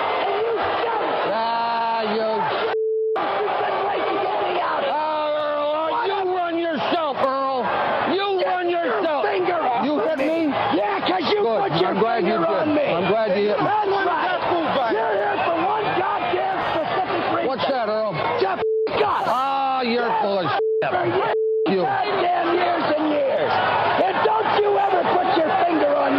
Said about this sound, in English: I also love the spirit of the crowd. Yeah. Listen, the crowd sounds like they just won the game.